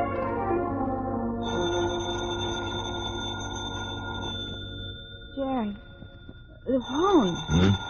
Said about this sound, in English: What's that? The phone's ringing. Answer the phone.